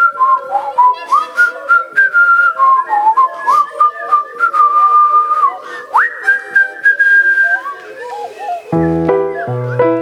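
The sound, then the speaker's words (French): A person whistles like birds in a telling of Little Red Riding Hood, with steady high notes that swoop up and down, sometimes trilling, over soft background chatter. The whistling ends with a short burst of layered musical tones. “Il écoute les oiseaux.”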